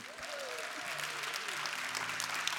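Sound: audience clapping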